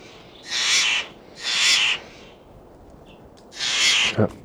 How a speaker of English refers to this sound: Just a couple of Steller's jays here, scared them off.